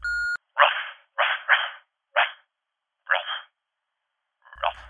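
dog barking

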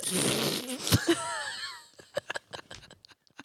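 fart

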